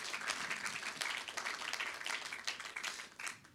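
A crowd applauds steadily, many hands clapping in a dense, continuous patter that stays fairly even in loudness, with no voices standing out.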